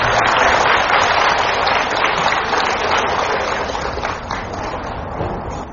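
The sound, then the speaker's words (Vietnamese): A large audience at a Buddhist dharma question-and-answer gathering claps loudly and steadily for several seconds to welcome the monk Thích Pháp Hòa, a dense sustained wave of applause that eases slightly toward the end, with no talking over it. “Đạo tràng chúng ta dâng tràng vỗ tay thật lớn để chào đón thầy Thích Pháp Hòa.”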